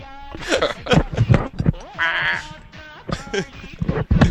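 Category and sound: animal, sheep bleating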